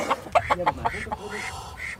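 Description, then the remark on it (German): A flurry of short, nasal quacks from three ducks comes in quick succession, in a wire-fenced garden enclosure with a rooster, a brown hen and a brown rabbit, with a voice speaking over the later part. “Da sind 1, 2, 3 Enten, ein Hahn, eine braune Henne fällt noch und ein braunes Kaninchen.”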